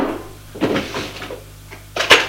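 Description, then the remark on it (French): A wooden kitchen sideboard drawer scrapes and rattles as it is pulled open, followed by a sharper knock near the end. No voices. “Là, à la cuisine, dans le tiroir du buffet,”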